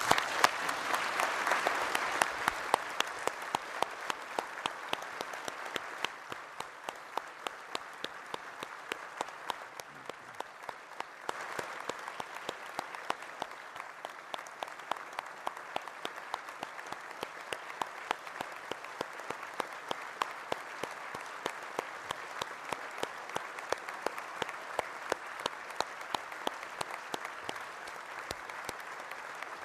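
Sustained applause from a large audience at a Synod fills the half-minute, a dense steady patter of many hands clapping with no voices over it, fading only slightly in intensity toward the end, thanking two retiring staff members.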